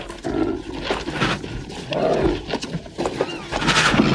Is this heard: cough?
no